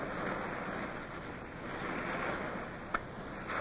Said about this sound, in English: The land breeze caught us, and then we heard the swell of the surf.